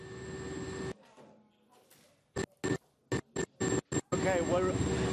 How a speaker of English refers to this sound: Now we're on a military helicopter. This is part of the Turkish military's air bridge operation that's going on to try and deliver aid to remote, isolated villages.